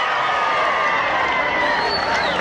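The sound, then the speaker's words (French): A large crowd cheers and applauds President Kennedy, accompanied by Congressman Jim Wright, in a dense, steady roar of voices and clapping, loud and unbroken throughout, with a few higher whistle-like tones rising above the din. “Vous entendez la foule, les applaudissements.”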